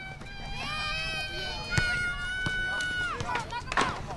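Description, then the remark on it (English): On a chilly Saturday morning, about 20 children from toddlers to teens run, climb and squeal at a playground next to Castlemont High: high, sliding squeals and shouts over a steady hum of playground noise, with quick footsteps and sharp bumps scattered throughout. “On a chilly Saturday morning, about 20 kids ranging from toddlers to teens run, climb, and squeal at a playground next to Castlemont High, while 3 security guards in bright yellow shirts look on.”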